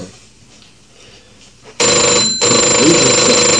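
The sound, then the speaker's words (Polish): A telephone rings loudly after a quiet moment, its harsh bell ring breaking off briefly before continuing to the end. “Chwileczkę, już daję telefon.”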